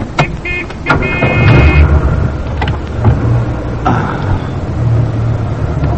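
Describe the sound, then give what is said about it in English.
An old car engine turns over with a steady low, rough rumble, broken by sharp clicks and a couple of brief, thin squealing tones. “I'm trying to start this rust bucket.”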